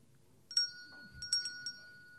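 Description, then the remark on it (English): A small, bright bell is struck once, then several quick times in a row, each hit leaving a clear, high ringing tone that hangs on. A faint low rumble sits underneath. “Well, I've got a bell.”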